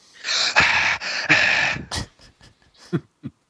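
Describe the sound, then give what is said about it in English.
Loud heavy breathing into an iPad microphone: two long, rasping breaths followed by several quick, softer puffs and snuffles. No talking. “Or someone breathing so heavy into their iPad.”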